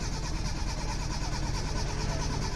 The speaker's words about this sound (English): That doesn't sound good. That does not sound good, Duncan. It sounds like the car's not starting, Duncan. Is that what's happening?